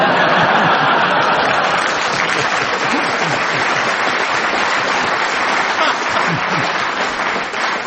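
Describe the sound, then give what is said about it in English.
A studio audience claps loudly and steadily, a dense, continuous patter of many hands that holds for about eight seconds, with no one speaking over it. “I don't mind your audience laughing when they make jokes against me, but I don't think you should applaud as well.”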